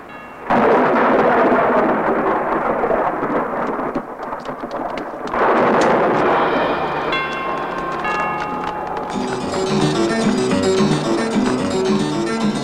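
Loud thunder crashes twice over a steady roar of heavy rain, the storm continuing as music swells in underneath during the second half.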